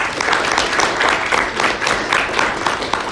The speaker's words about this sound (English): and everyone, can you please join me in giving her a round of applause?